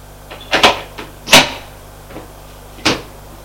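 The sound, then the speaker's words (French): Someone knocks at a door, which is opened and shut, with a few sharp latch clicks and wooden knocks spaced irregularly over a few seconds. No one speaks. “Un jour, qu'ils prennent le thé, on a frappé à la porte. Entrez !”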